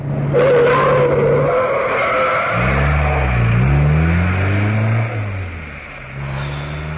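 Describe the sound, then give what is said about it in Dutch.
A car engine roars loudly, then tires screech in a long, wavering squeal that bends up and down in pitch for several seconds as the vehicle swerves while another driver deliberately tries to force it into a shop window, with no voices. “Hij probeerde ons zo die etalage in te snijden.”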